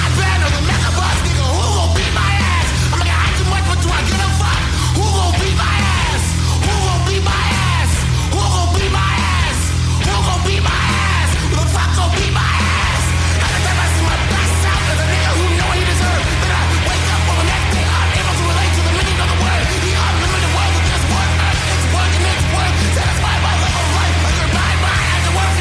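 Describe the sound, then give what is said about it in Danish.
Loud, dense hardcore punk with a shouted vocal over distorted guitars and pounding drums, a constant wall of noise that stays intense throughout. “Det er noget af det mest højt råbende, udskældende hardcore punk, jeg har hørt i lang tid.”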